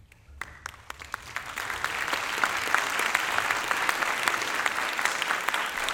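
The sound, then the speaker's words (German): An audience breaks into applause, starting with a few scattered claps and quickly swelling into steady, dense clapping that holds at a strong level throughout. “Warum denn Klatschen?”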